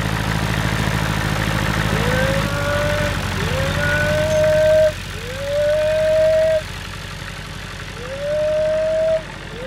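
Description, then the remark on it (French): Four drawn-out mooing calls from arriving cows, each rising then holding steady, come at a steady pace over a constant low engine rumble, clear. “Ça, c'est le gardien des vaches”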